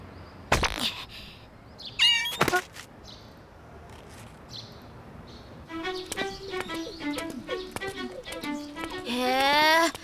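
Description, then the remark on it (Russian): A cat meows several times while biting a person, with two sharp thumps early on, followed by a run of quick, strained meowing cries that grow louder toward the end. “Что-то коты слишком часто тебя кусают.”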